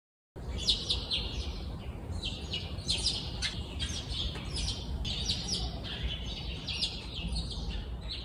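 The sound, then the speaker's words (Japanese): Many wild birds chirp and twitter continuously outdoors, recorded from a home balcony in Hirakata, Japan, in the daytime on a hot day; bright overlapping calls over a steady background hiss, with no talking. “鳥の声で目覚めですか。”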